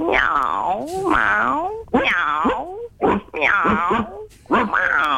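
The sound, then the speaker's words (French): A caller on a radio show imitates a dog with a series of loud, voiced yelping barks that swoop in pitch, about five bursts with short pauses between them. “Eh ben, moi je vais lui aboyer dessus, je vais faire le chien.”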